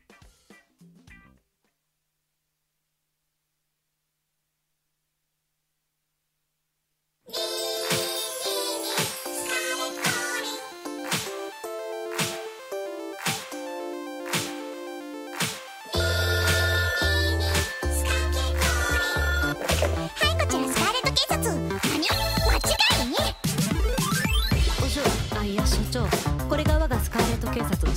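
After a brief sound and several seconds of silence, an upbeat song kicks in loud and bright with a steady driving beat, then heavy bass joins halfway through and the track grows fuller.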